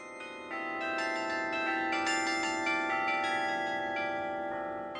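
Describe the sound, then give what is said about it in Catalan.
Carillon bells of the Palau de la Generalitat, an instrument inaugurated in December 1976, ring out in a steady melody, overlapping struck tones with long shimmering decays filling the space, moderately loud and continuous with no voices. “El carilló del Palau de la Generalitat el podria descriure en paraules d'una persona que va ser un dels presidents de la Federació Mundial de Carillonistes, l'Adrian Patrick Gebruers, que un dia doncs, tocava aquí al Palau de la Generalitat i va dir,”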